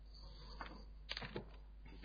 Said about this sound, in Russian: Тут, в принципе, кубик можно кинуть. Ну, киньте кубик. Кинь за себя и за эльфа до 6.